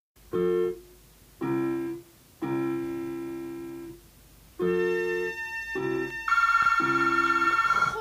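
A telephone rings with a bright, melodic electronic tone, sounding in several short bursts with brief pauses, then a denser, sustained ringing phrase at the end. Loud, with no talking.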